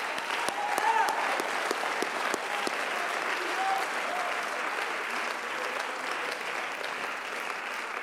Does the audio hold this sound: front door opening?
no